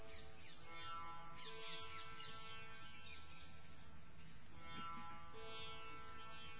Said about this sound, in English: Voices of birds. Is there only one type of bird, or are there different birds' voices? Try to distinguish.